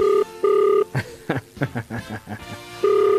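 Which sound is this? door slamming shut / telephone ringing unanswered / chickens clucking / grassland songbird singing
telephone ringing unanswered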